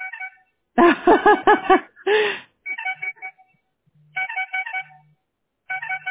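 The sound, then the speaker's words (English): A phone ringtone for an incoming call plays a bright, melodic electronic tune in several repeating bursts with short pauses between them, fairly loud, with no one talking over it. “You hear that? That's the guy calling me.”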